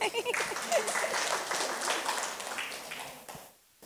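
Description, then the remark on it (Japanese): Sustained audience applause, a dense crackle of many hands clapping for about three seconds. A voice is heard at the start, and the clapping fades out at the end. “もう一度盛大な拍手をお願いします。”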